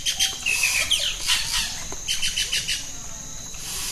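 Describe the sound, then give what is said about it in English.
Dense rainforest ambience in Amakayaku National Park in the Amazon, filled with overlapping bird chirps and high, rapid calls, plus a steady insect-like hiss, all fairly loud with no voices. “It's Amakayaku National Park in the Amazon.”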